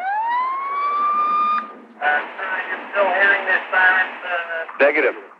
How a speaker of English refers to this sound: Turn on your sirens and turn them off so they could hear through the cell phone where they were on the fly to triangulate exactly where this is and where the police cars were. 911, put on your siren now.